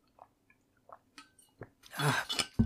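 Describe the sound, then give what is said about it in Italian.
Someone drinks water: a few soft, scattered gulping and swallowing sounds, then a louder wet, breathy swell of swallowing and exhaling, ending with a brief thump. “Mi ribevo l'acqua.”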